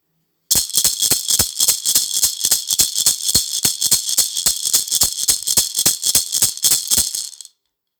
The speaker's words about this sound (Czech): A to zněla rumba koule maracas.